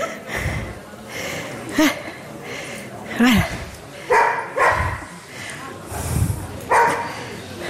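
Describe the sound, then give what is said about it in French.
A dog barks several times in short, irregular bursts during the judging at a dog competition, with a voice and general background noise running underneath throughout. “Elle regarde une dernière fois les deux chiens qui sont en face d'elle, avec leur maîtresse.”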